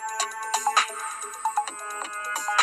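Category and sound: signal or alarm, mobile phone ringtone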